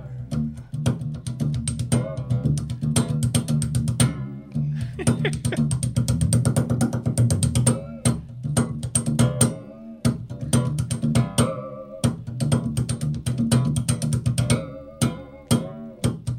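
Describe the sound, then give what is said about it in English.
A homemade metal instrument is played continuously: a steady low droning hum under rapid, clattering metallic strikes and ringing tones, loud and busy throughout, with no one talking. “Well, let's hear some more of what either instrument you care to play, and okay.”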